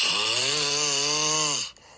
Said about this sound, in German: Liebling, hier der Beweis. Du schnarchst.